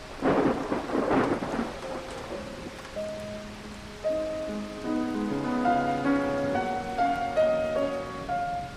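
A loud burst of thunder rumbles over steady rain in the opening seconds, then a gentle melody of sustained notes rises and carries on as the storm fades beneath it.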